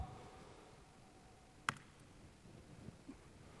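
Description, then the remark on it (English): A single sharp keyboard key press clicks out midway through a quiet stretch as the Control Alt Enter shortcut is hit to switch to the browser, followed by a couple of fainter taps; no one speaks. “So I'm going to hit that key, and I'm in the browser.”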